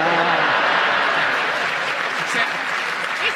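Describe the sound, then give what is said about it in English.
The audience of a radio comedy panel game applauds Graham's funny facial expression, a dense wash of clapping hands that holds an even, loud level throughout and tapers only slightly toward the end, with no voices rising above it. “Graham's face was a picture, and that's why they were applauding.”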